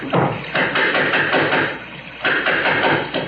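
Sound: knocking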